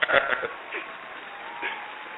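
Audience applause greeting a guest introduced on a show, a burst of dense clapping at the start that settles into a steady, softer patter of many hands for the rest of the moment.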